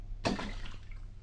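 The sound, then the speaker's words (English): A heavy metal object, a reverse gear out of an Essex, plops into the liquid in a witch's cauldron with one sudden splash, followed by a brief sloshing and bubbling that fades away. No voices. “A reverse gear out of an Essex. I'll drop that in.”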